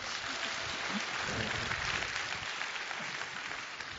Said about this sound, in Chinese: 来，再次热烈掌声这对夫妻。